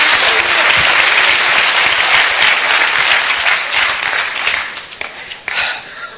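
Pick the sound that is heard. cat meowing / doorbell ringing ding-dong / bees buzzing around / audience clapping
audience clapping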